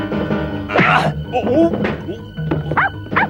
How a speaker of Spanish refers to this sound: Milú muerde la gabardina del espía. Con la gabardina rota, el espía sale huyendo.